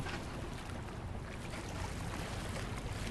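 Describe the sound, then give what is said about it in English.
Steady ambience of a Boston harbor drifts in through a window pushed open about 4 inches: a continuous wash of wind and water over a low, rumbling hum, even in level throughout, with no voices. “You just pull these latches, bottom and top, and push it out just about 4 inches, and you feel the fresh breeze coming in from the harbor.”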